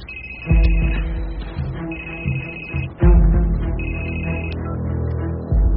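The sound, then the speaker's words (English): A telephone rings three times in steady, evenly spaced, clear bursts over a low rumbling musical background that swells a couple of times. “You don't answer your phone.”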